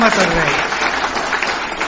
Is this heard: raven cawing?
no